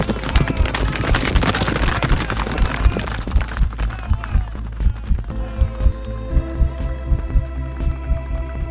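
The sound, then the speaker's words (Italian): A huge grey war horse, saddled and fully harnessed, gallops away in a steady, rhythmic pounding of hooves that grows clearer after a loud, chaotic rush of noise, with a sustained musical drone underneath. “Francesco si aggrappa al suo cavallo e salta in sella.”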